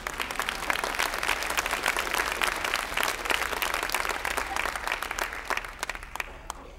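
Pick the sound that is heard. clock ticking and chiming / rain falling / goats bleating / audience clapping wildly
audience clapping wildly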